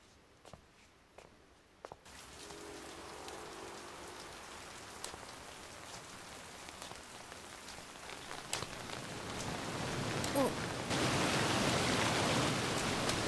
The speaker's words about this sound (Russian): Живет и совсем не думает, что теперь мне придется промокнуть до нитки под ливнем.